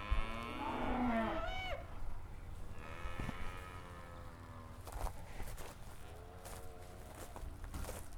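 cows mooing

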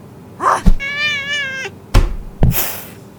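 cat meowing

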